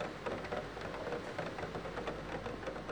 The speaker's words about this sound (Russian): За окном темнело, и по-прежнему лил дождь, крупный, тяжелый, неторопливый. Дождь, которого было очень много и который явно никуда не торопился.